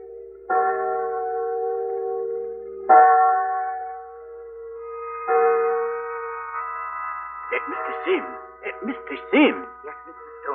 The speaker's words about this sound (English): Listen. There go church bells. That proves it's Sunday.